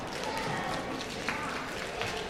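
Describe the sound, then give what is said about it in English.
One section of an audience, asked to do quiet hand claps, claps softly together, producing a steady, even patter of many quiet hand claps with no clear beat, and an occasional sharper clap standing out. “Okay, over on this little section, can you do quiet hand claps?”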